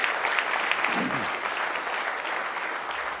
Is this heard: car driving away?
no